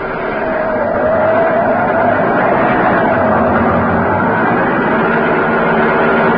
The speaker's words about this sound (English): Look at the needle. 85. It's a car!